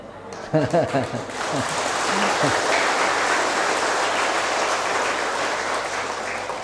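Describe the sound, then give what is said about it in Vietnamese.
A crowd bursts into sustained applause, a dense wash of clapping that holds steady for several seconds, with a voice briefly heard at the start before the clapping takes over. “Tức là quý bà con vỗ tay còn hơn cả những người giàu.”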